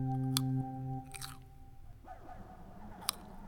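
Chewing of crunchy snacks, with a few sharp, crackly crunches spaced irregularly over a low steady hum, and no one speaking.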